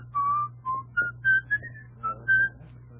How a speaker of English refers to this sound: Were you whistling then